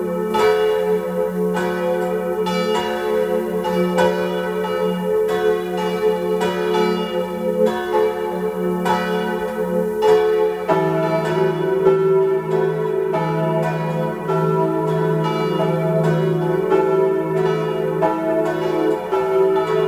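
Several church bells of the parish church of St. Nicholas in Grins near Landeck, in Tyrol's Oberinntal, peal together at noon in a full, sustained ringing with overlapping strikes and rich ringing overtones, loud and continuous throughout, with no voices present.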